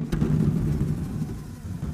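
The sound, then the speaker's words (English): A couple of blown-up party balloons with BBs inside are shaken, the rattling creating a deep, continuous rumbling roar that imitates rolling thunder, opening with a brief sharp crack and holding steady for about two seconds, with no talking. “These are just BBs inside of a party balloon. So a couple of blown up balloons with BBs inside it. We shook them”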